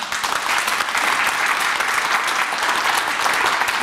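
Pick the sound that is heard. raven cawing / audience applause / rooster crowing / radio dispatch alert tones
audience applause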